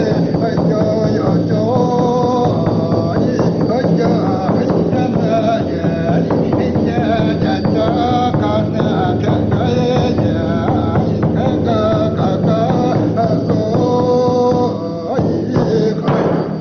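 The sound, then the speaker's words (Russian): A Yakut shaman's road song, part of a shamanic ritual in which he depicts his journey to the spirits by reindeer: a voice intoning steadily over a dense, driving rhythmic pulse that runs without pause for the whole stretch, loud in a muffled, old-sounding recording. “Ну а теперь дорожная шаманская. Это элемент камлания. Якут-шаман изображает свою поездку к духам на оленях.”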